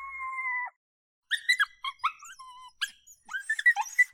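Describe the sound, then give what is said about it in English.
Coyote vocalizations from BFA's CSD (call, shoot, drag) files, made of 100% coyote vocals from BFA's library: a short, steady, tonal howl, a brief pause, then a burst of rapid, high-pitched yips and wavering yelps rising and falling in pitch, with no talking. “BFA's CSD files, short for call, shoot, drag, 1 through 5, are made up of 100% coyote vocals from BFA's existing library.”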